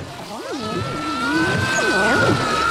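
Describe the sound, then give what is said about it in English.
Water from a decorative water pool swirls in a whirlpool and drains away through a giant plughole in a steady rushing hiss, with warbling, wobbling gurgles that rise and fall over it, growing slightly louder toward the end. “Dorian jumps into a decorative water pool and instantly finds himself caught in a whirlpool as the contents drain out of the bottom.”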